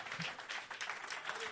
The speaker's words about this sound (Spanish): Y todos los santos dicen amén y amén. Denle un fuerte aplauso al Señor en esta mañana.